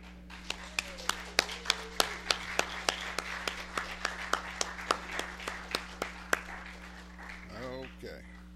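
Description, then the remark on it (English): An audience at a morning church service applauds the grandparents standing, with a steady run of sharp, distinct hand claps over a constant low hum, fading out after several seconds as a voice begins speaking. “And will all the grandparents stand this morning, and we'll give them a round of applause.”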